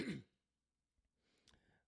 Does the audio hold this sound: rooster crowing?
no